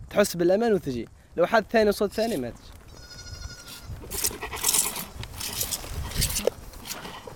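A few loud, wavering goat bleats in the first couple of seconds as a man grabs a goat, holds it and milks it, followed by softer rustling, shuffling and general farmyard commotion.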